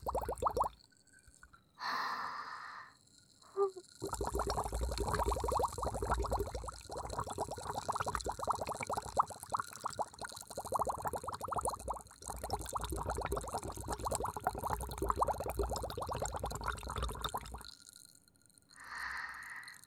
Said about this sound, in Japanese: 音がブクブクするとね、炭酸泡がパチパチパチパチって細かく弾けて